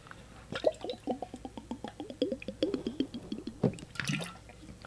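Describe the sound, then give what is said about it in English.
Liquid sloshes and glugs inside a water bottle in a quick, steady run of hollow gurgles, fairly loud, ending with a brief splashy burst. No one speaks. “It's not a bong, Jamie Ganderillo. It's what we call a water bottle, which if you exercised, you would know about that sound.”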